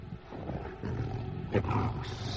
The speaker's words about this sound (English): What is that? I don't know. It's a sheepdog or something.